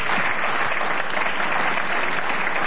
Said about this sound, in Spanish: Maipú 555, este es el auditorio de Radio Nacional y este es Patricio Barton, a quien vamos a saludar con una ovación.